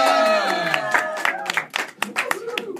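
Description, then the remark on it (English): A crowd loudly yells a name together, sustained overlapping voices at first, then breaking into sharp scattered claps and cheers. “Everybody fucking yelled it.”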